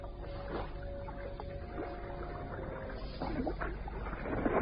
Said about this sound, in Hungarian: Csikorog a talpuk alatt a kavicsos homok. Megemelik a csónakot.